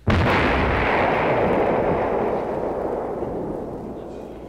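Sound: vocal imitation of explosions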